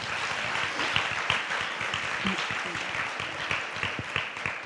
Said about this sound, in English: and if we could just give her a round of applause.